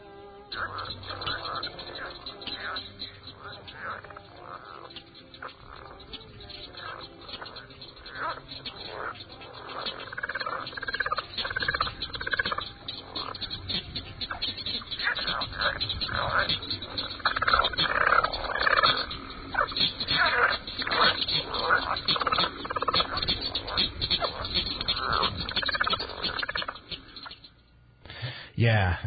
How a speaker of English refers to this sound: A somewhat smaller frog with paired vocal sacs that appear as balloon-like protuberances on each side of the throat is a leopard frog, Ranipipiens. This is its mating call.